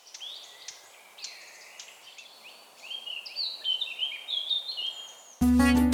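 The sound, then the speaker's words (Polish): A Eurasian blackcap sings a rich, varied warbling song of fluty phrases, clear over quiet woodland background, growing livelier before a sudden loud cut to a different sound at the end. “Kapturka.”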